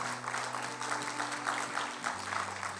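A crowd applauds steadily for about three seconds, a dense, even patter of many hands clapping at a moderate level, with a faint low hum underneath and no voices.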